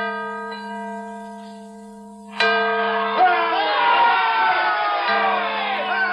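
The bell at Independence Hall in Philadelphia hums with a lingering, resonant tone, then is struck again, loud and clear, its rich ringing overtones sustaining to the end amid faint crowd noise.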